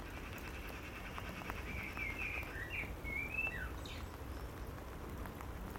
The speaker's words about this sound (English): So anyway, as you'll probably hear, it's raining. That was the forecast. Loads of rain over today and tomorrow.